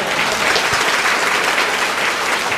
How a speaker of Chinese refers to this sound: 我们是不是在鼓掌谢谢我们的弟兄哈？